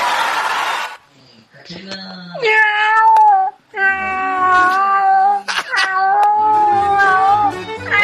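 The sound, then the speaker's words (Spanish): A skinny, hairless cat yowls loudly in long, drawn-out wails, two sustained caterwauls with wavering pitch following a short burst of noise, plus a brief meow between them. “¡Ay, oh, el gato flacuchento y pelado!”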